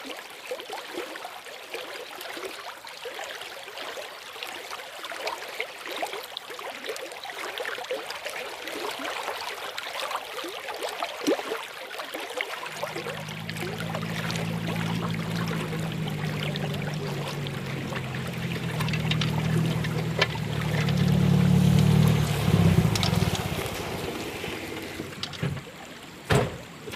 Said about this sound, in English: For those of you who love the sound of running water, I am going to place my microphones by the Glenariff stream here in the high country.